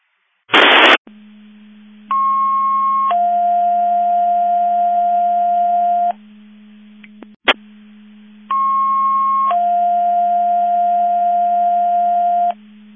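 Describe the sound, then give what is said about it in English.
A burst of static, then a steady low hum under two sequential alert tone patterns: a higher tone stepping down to a long lower tone, repeated after a click. Electronic, loud and clear, with no talking. It is a QuadCom Mavis Division 2 test of the Division 2 Mutual Aid Box Alarm alert receivers. “This is QuadCom Mavis Division 2 testing the Division 2 Mutual Aid Box Alarm Alert Receivers.”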